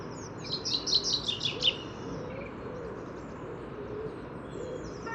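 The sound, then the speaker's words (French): A common chaffinch, the first heard in 2018, sings one brief, incomplete phrase of quick, bright notes tumbling downward, in spring in the Paris region, over a steady outdoor rumble that carries on after the song stops. “Premier chant de pinson des arbres de l'année 2018.”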